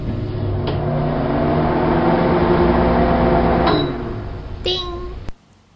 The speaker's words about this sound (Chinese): 所以呢，我把杯子放在微波炉里叮了30秒，拿出来看了看，还是不够烫，又放进去叮了30秒。